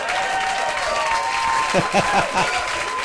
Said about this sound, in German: Hier kommt ein Applaus.